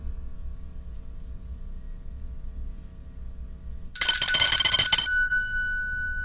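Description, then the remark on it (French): A single short electronic telephone ring, about a second long, after the number 1 is dialed to call a cousin, bursts out over a steady low background hum, followed by a faint lingering tone. “Je compose le 1 pour appeler mon cousin.”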